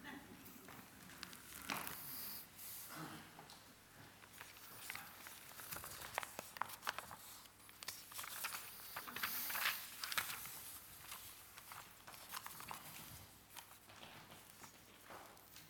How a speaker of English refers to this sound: Still stamping.